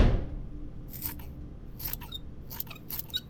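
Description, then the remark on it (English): Scissors snip through clumps of human hair in several crisp cuts, about four or five snips spaced irregularly over a low background hum, with no talking. “Well, grab some scissors.”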